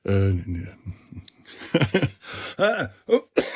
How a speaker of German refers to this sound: Den Husten, das kennt ihr, werdet's bitte verzeihen. Das wird noch ein bisschen dauern, bis der komplett weg ist.